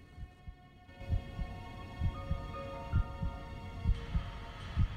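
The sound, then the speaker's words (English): A slow, steady heartbeat thumps in low, muffled pulses, paired beats repeating roughly every second over a soft sustained hum, with no voices. “He hears the heartbeat.”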